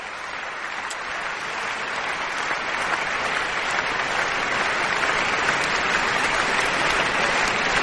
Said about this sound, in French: Et Pierre Boulez pousse Bertrand en avant et l'applaudit, comme ses camarades musiciens.